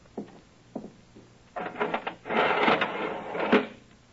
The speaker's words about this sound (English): First of all, if you'll be good enough to go inside and lower the iron shutter, I'd like to see just how impregnable it is. Oh, certainly, Mr. Holmes. Just a moment.